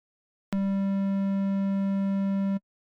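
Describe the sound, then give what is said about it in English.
A steady synthesizer triangle-wave tone, mellow and slightly hollow, holds at an even loudness for about two seconds, with a faint click where it starts and stops, heard alone. “And this is triangle.”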